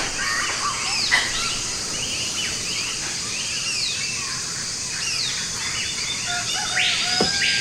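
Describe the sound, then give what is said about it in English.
A rooster calls amid a steady chorus of chirping birds, the calls scattered and moderately loud over constant outdoor ambience, with no talking. “Hey, a rooster.”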